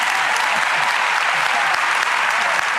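The audience of Oprah's show applauds steadily to welcome a guest, a dense wash of many hands clapping at an even, loud level for the whole stretch without a pause.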